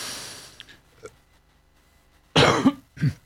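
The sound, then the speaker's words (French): Two harsh coughs, the first a rough burst followed by a second shorter one, preceded by faint breathy noise and small clicks, with no talking. “Et maintenant, je tousse.”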